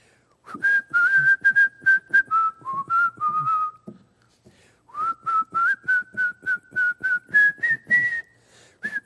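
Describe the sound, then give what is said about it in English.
A man whistles a slow, steady hymn-like melody on an airplane at about 5:20 in the morning, in two sustained phrases separated by a short pause, clear and fairly loud with no talking. “I heard this guy whistling, come and dine.”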